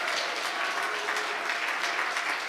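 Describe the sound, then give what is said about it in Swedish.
A crowd at the close of a championship event claps steadily in dense, continuous applause, many hands at once, filling the space evenly at a moderate level with no voices standing out. “Och en stor applåd till hela mästerskapet.”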